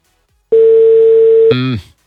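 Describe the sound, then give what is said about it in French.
A single steady electronic telephone tone sounds clearly for about a second, then cuts off into a brief harmonic, voice-like sound that quickly fades: the ringing tone of a dialled phone call that goes unanswered. “Ok, je compose.”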